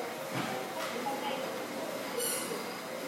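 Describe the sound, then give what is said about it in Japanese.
Continuous rumbling industrial noise of an electric rail cart carrying car-body welding jigs running down the middle of a car factory line, with a few brief clanks and a short high squeal, while a voice talks faintly underneath. “ここが今電車っていうのはこの真ん中走ってるやつですね。これでこの上に事具が乗って走って、この電車はですね、たくさん電車の予備があって、それをこういろんな工程使い回ししてたんです。”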